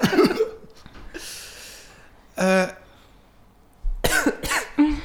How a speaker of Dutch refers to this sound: En hoest zeer zwaar, zoals Will Byers in seizoen 2.